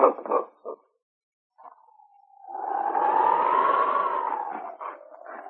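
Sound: dog barking and whimpering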